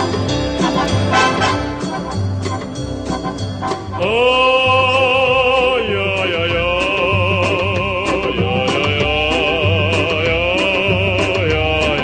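A brief, bouncy orchestral intro gives way after about four seconds to a man from the 1970s singing a cheerful wordless vocalise, his loud sustained and warbling notes riding over a steady oom-pah accompaniment.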